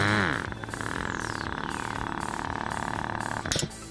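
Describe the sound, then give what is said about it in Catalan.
Steady mechanical whirring and buzzing of a robot arm stacking six-packs of beer cans onto a pallet, with a falling tone at the start and a sharp click about three and a half seconds in as its suction cups gently release the cans. “Les xuclen i el braç del robot se les emporta i se sent el clic quan suaument les deixa anar.”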